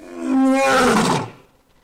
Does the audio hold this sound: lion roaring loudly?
yes